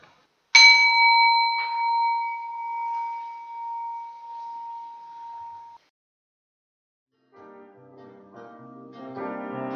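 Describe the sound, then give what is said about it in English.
A clear bell, marking the start of two minutes of silence, rings out with a bright struck tone, is briefly touched again, and its pure ringing slowly fades over about five seconds into silence before soft music begins. “We'll now have 2 minutes of silence, and you'll hear a bell at the beginning and the end of that, and the interlude will follow.”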